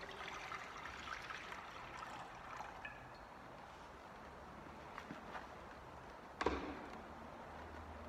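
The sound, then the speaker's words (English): Water pours steadily into a baptismal font, a continuous splashing trickle lasting several seconds, with a brief sharper splash or clink near the end and no talking. “And now we take water.”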